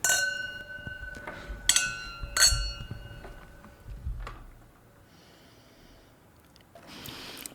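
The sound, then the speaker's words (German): Wine glasses clink together in a toast during a wine tasting, three or four bright chimes in quick succession, each ringing on briefly, followed by quieter handling sounds and a soft breathy rustle. “Ich will nachher trotzdem noch mal schnell darauf zurückkommen, aber zuerst mal probieren. Prost miteinander.”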